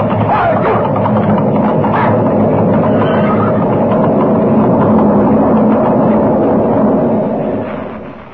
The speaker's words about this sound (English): The mountain is moving, coming down on us. It's an avalanche, and we're right in its path.